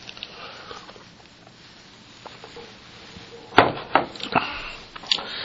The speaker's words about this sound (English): I know you're in Psalm 118, so I'll give you a second and take a sip of coffee here.